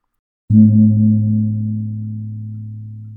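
A single medium-sized kumpur gong is struck once, giving a deep, steady low-pitched tone with a strong hum that sustains and fades slowly, alone with no other sounds.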